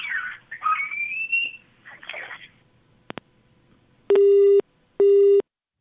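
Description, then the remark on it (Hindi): A telephone busy signal after separatist leader Syed Ali Shah Geelani hung up the call: garbled, crackly line noise and a couple of sharp clicks, then two loud, steady electronic beeps repeating in an even on-off rhythm. “ये थे अलगाववादी नेता सैयद अली शाह गिलानी, जिन्होंने हमारे सवाल का जवाब नहीं दिया और फ़ोन काट दिया।”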